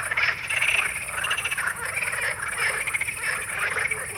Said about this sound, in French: Rien que le fait de les entendre évoque déjà une certaine idée de cette scène. C'est presque musical, un cœur de batracien comme batteur, battant, cœur battant.